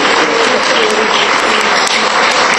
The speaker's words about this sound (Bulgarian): Честито на всички, още веднъж аплодисмент за тях.